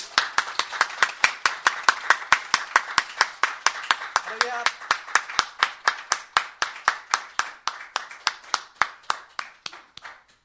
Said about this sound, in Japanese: それでは私たちを歓迎してくださっている主に感謝の拍手を持って礼拝を始めてまいりましょう。